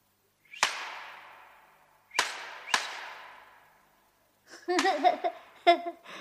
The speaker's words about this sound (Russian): Обыкновенный пастушеский кнут. Если за кнут умелые руки взялись, это уже не кнут, а солист.